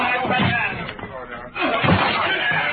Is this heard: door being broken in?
yes